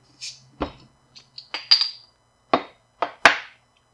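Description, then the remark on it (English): A bottle of Lagunitas beer, 11.7% ABV, being opened: a quick run of sharp metallic clicks and clinks, one with a brief bright ring, spaced irregularly over a few seconds with no talking. “Let's crack her open.”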